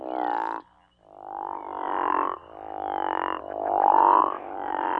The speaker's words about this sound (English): Sounds like a big frog, is it? Yeah, it's a large frog, large with big spots, and it's quite a fabulous frog, but not easy to find the chorus of those guys.